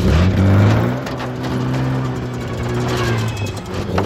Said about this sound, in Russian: Приоткрыв рты, мальчики провожают ее взглядами. Обогнув хижину, машина скрывается в лесу.